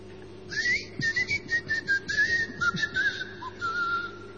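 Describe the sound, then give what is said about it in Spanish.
Someone whistles in a run of quick, wavering, slightly warbling bursts, fairly loud and steady for a few seconds, with no talking, whistling to call a lost keychain that answers back. “Había unos llaveros que si vos los perdías, chiflabas o llamaba algo, del otro lado. Y el llavero te contestaba.”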